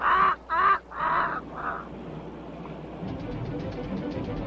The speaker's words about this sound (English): What kind of a pet is a bird that can't fly?